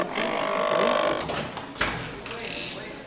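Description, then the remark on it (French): A printer mechanism being repaired at a Repair Café whirs and rattles steadily for about a second, followed by a sharp clack and a quieter mechanical hum, with a murmur of voices in the background. “J'essaye de faire réparer mon imprimante.”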